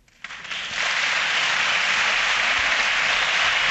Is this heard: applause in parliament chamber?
yes